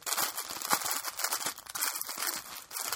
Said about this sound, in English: Y'all are going to be listening to, like, rustling paper. It's like, whatever. Y'all get over it.